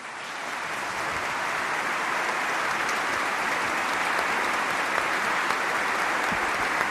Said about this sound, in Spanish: Pero antes de concluir, deseo reconocer y agradecer la labor realizada tanto por mi predecesor en esta sede nibariense, don Bernardo Álvarez, por quien pido un fuerte aplauso.